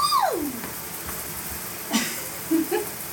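household object, shower water running

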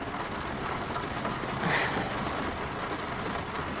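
nature, rain falling

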